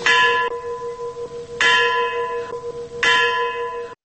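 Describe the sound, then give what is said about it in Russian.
A church bell tolls slowly at night at the memorial mound to the heroes of Chernobyl in Kyiv, marking the 27th anniversary of the Chernobyl disaster, struck three times about a second and a half apart, each deep, resonant ring humming on and overlapping the next. No voices are heard. “Двадцать семь таких ударов колокола, символизирующих 27-ю годовщину катастрофы, прозвучали в ночь на пятницу в Киеве у мемориального кургана героям Чернобыля.”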